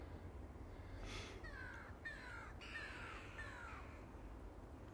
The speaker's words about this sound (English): I'm just about to say that it's one of those mornings that seems to suit the crows. Foggy, misty mornings.